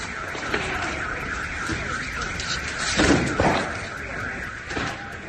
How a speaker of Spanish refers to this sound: Es el sonido de las alarmas al que ya se ha acostumbrado la población ucraniana.